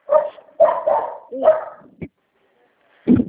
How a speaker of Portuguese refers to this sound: Sim, passou uma moto, o cachorro latiu também.